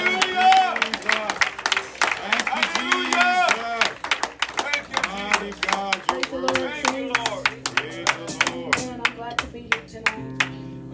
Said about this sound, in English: Everybody give the Lord a hand clap.